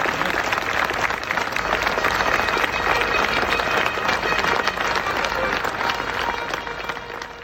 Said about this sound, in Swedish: Och sen tog London ett djupt andetag, pustade ut och Hyde Park bara exploderade i en applåd.